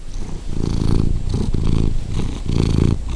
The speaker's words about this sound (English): That's Paris the cat. She lives at Lazy Cat Gardens with her owner,